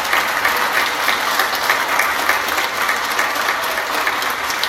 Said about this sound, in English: That clap is for God, because that just means that people are recognizing that God's grace and his work is already here, and that we want to be a part of it.